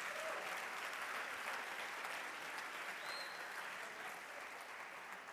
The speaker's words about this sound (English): All right, one more hand clap